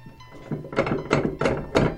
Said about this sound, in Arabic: من الطارق؟ أنا عمك يا عبد الله، افتح الباب